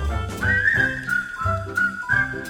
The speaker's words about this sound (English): Come on, get smart, tune up and start to whistle while you work. Let's give a little whistle. Anyone can whistle.